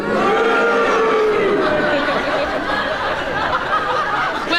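A studio audience votes on a panel-game challenge, cheering if Clement Freud is right that Nicholas Parsons repeated himself and booing if not: a loud, continuous mix of cheers and boos, a dense wash of many voices with drawn-out jeering tones and scattered laughter running throughout.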